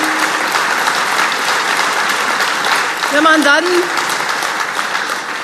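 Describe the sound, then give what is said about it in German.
Steady, dense applause from an audience fills the whole stretch at an even, fairly loud level, while a man's voice briefly speaks over the clapping. “klatscht leider nicht jeder, da muss ich noch Überzeugungsarbeit leisten”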